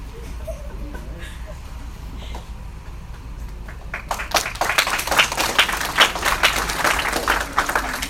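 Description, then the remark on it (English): A low murmur of voices, then clapping from an audience breaks out around four seconds in as a speaker is introduced, building into steady, dense applause that continues to the end. “You might want to hold your applause because I don't even know if I'll understand this.”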